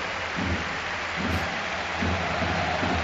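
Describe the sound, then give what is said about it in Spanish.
A large stadium crowd at the Camp Nou applauds Ivan Rakitic as he comes onto the pitch as a Barcelona substitute, in a dense, continuous wash of clapping, with a low roar that swells and eases in waves throughout. No one speaks over it. “Buena ovación se lleva.”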